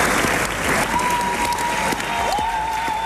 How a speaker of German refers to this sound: Zwischen den Jubelrufen und dem kräftigen Applaus gab es auch vereinzelt Buhrufe